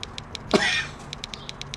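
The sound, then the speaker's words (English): A single short, harsh cough bursts out, then fades, with a faint steady ticking pattern running in the background throughout. “Still got that cough.”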